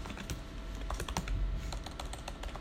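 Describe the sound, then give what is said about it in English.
Rapid, irregular clicking of keys on a computer keyboard, typed steadily during a meeting, with no voices over it. “Someone's typing again.”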